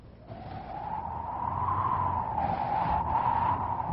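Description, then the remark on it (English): A long, unbroken dog whistle, identified as one for calling a Saint Bernard, that sounds like wind whistling: one airy tone that rises gently in pitch and swells louder, holding steady to the end with no voices. “It sounded like the wind whistling.”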